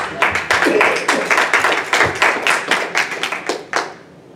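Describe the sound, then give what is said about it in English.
Hands clap steadily at a Unity church service after a prayer ends with Amen, a quick run of sharp, evenly spaced claps that fills the whole stretch before tapering off near the end. “I'm going to clap.”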